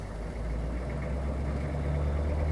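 A blue Volkswagen's engine idles steadily on the third floor, a continuous low rumbling hum with a slight throb, holding the same level for the whole few seconds with no voices.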